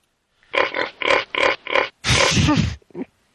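A pig grunts in a quick run of five rhythmic oinks, then lets out a longer, harsher squealing snort and one last short grunt, all loud with no talking.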